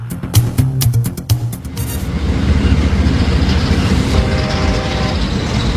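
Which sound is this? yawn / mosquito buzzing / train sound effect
train sound effect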